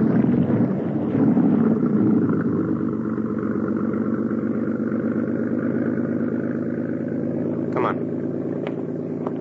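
A boat engine, on a boat carrying a man to the States, rumbles with a steady, low droning throb that stays loud throughout, easing off only slightly toward the end as it pulls away.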